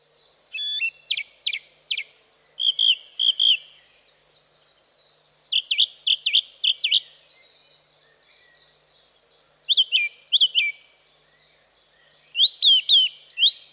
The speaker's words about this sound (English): The song thrush is a small, familiar songbird commonly found in parks, gardens, woodland and scrub. Living up to its common name, it has a beautiful loud song with repeating phrases.